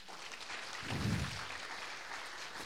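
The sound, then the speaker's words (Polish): A crowd claps steadily for the children, a dense, even patter of many hands that holds at a moderate level throughout, with a brief low rumble swelling about a second in. “Oklaski dla naszych dzieci.”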